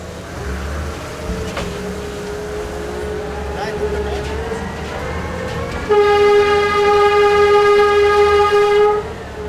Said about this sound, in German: Der Lokfahrer ist ja auch verpflichtet, bevor er anfährt, Signal zu geben. Der ist verpflichtet, wenn er hält, Signal zu geben. Der ist verpflichtet, wenn er an unübersichtlichen Stellen kommt.